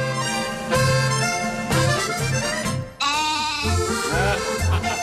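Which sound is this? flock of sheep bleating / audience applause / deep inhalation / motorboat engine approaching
flock of sheep bleating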